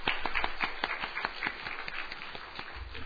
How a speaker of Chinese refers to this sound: OK， 假如没有，我们一同鼓掌欢迎